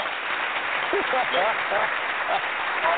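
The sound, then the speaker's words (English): A steady, dense round of applause fills the whole stretch at even loudness, with a few voices calling out faintly over the clapping. “I say that calls for a round of applause.”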